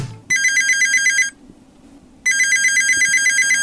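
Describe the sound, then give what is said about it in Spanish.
A telephone rings loudly in two long bursts of rapid, bright bell trills separated by a short quiet gap, with no voices present: a call to La Leñera, the community radio station of Potrerillos. “Comunicate con La Leñera al teléfono”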